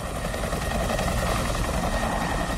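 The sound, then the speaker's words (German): A helicopter's rotor thrums steadily and loudly, a continuous low, rough pulsing drone with broad engine noise above it, unbroken, with no voices. “Der Hubschrauber, mit dem das Album eröffnet, hätte der Polizeihubschrauber von der letzten Demo sein können.”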